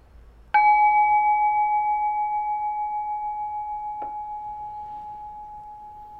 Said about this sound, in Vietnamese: Thì mời mọi người mình thả lỏng, mình nghe tiếng chuông rồi mình bắt đầu.